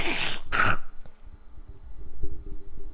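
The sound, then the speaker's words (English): Someone clears their throat in two harsh, rasping bursts, then it fades into low, gravelly rumbling and breathy noises for a couple of seconds. “Okay, I'm gonna need some time to clear my throat.”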